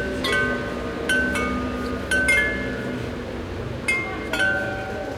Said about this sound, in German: Die hören wir jetzt schon, während wir auf die Kirche zulaufen. Ganze 37 Glocken aus Meißner Porzellan.